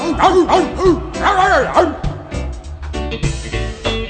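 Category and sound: animal, dog barking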